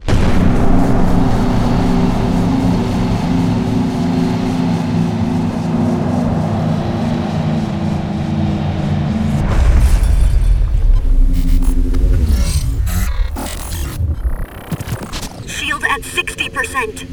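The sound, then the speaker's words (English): A long, steady low throbbing hum gives way to heavy booming cannon blasts midway, with crashing bursts and descending whooshes piling up loudly toward the end. “Professor Rativorn, resume cannon fire.”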